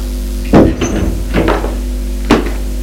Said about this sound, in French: Elle frappe une porte.